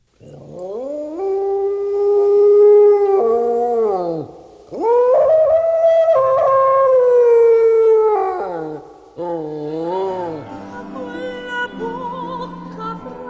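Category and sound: animal, wild dog howling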